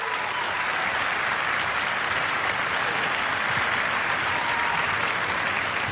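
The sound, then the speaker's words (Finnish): Steady, dense applause from an audience, a continuous wash of many hands clapping at an even loudness for the whole stretch, with no voices standing out. “Vielä mahtavat aplodit.”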